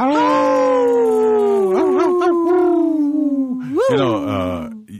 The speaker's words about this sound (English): but we have a wolf howling.